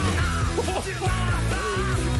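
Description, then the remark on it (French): A recorded song with a vocalist shouting the lyrics over loud, dense music, the strained voice sliding in pitch against a steady driving backing for a couple of seconds. “Je crois qu'on peut dire qu'on est vraiment dans le cri.”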